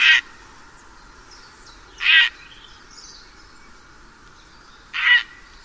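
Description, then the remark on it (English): Three loud, harsh croaks from a grey heron, spaced a couple of seconds apart, with only a faint, quiet background between calls. “The grey heron, or hanser as it is known, is a familiar sight on Norfolk's waterways, and Serena Shores tells how this elegant, striking bird inspired one of the world's oldest wildlife surveys.”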